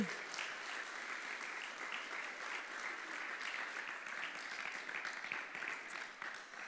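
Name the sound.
warm audience applause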